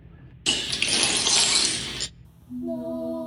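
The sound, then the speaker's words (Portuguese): A loud crash of a hand-held object being deliberately broken bursts in suddenly, with a dense spray of breaking pieces for about a second and a half, then gives way to a steady, humming tone. “Respire fundo e quebre.”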